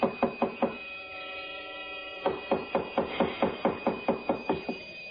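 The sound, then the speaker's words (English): Heavy pounding on the door of suite number 3A: four quick thuds, a pause of about a second and a half, then a longer run of a dozen or so loud, steady knocks with no voices. “Oh, now, please, don't batter down the door.”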